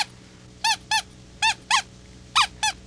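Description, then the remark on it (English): A rubber duck toy squeaks six times in three quick pairs, each squeak a bright, high, wheezy honk with a slight bend in pitch, heard alone over a faint background hum. “Do like the rubber ducky. He doesn't have much to say.”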